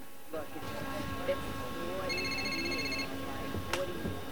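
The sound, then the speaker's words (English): A woman's mobile phone rings aboard a plane with a short burst of bright, warbling electronic tones, standing out clearly over a low murmur of voices and background bustle. “Her mobile phone starts ringing.”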